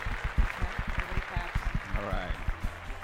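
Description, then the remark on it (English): A small group applauds, with sharp, uneven claps continuing steadily for a few seconds, while a voice calls out briefly over the clapping partway through. “Put your hands together, Realm Network, Russo's brand, for my dear friend”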